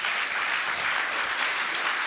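Steady applause from an audience for a speaker after a talk about AI, a dense wash of many hands clapping at once, sustained and fairly loud throughout with no voices standing out.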